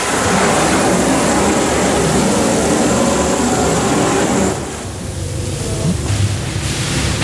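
shower water running

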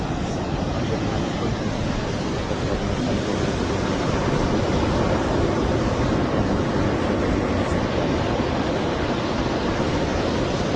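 ocean waves washing ashore

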